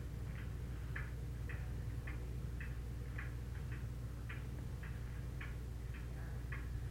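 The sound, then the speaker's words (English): A wall clock mounted up high ticks steadily, about twice a second, its soft clicks regular and even over a low background hum. No one speaks. “And then, at what time is it right now, according to the clock up there?”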